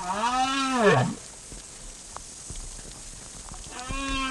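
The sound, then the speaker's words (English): Southern right whale calls recorded underwater off the coast of Argentina: a loud, moaning harmonic call that bends in pitch, a stretch of faint crackling water noise, then a second rising call begins near the end. “For over two decades, Professor Clark has been studying the acoustics of the ocean, including the songs of large whales, like these southern right whales he recorded off the coast of Argentina.”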